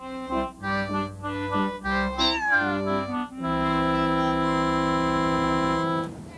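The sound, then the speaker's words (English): A cat named Dog meows loudly, several short, rising and falling cries followed by one long, drawn-out meow held for a few seconds. No one speaks. “Dog's a great cat.”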